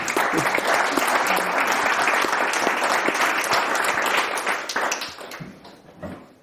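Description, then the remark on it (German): Dense, steady applause from many hands claps on for about five seconds, then thins out and fades, with a few scattered claps trailing at the end. “Wirklich, Applaus für dich.”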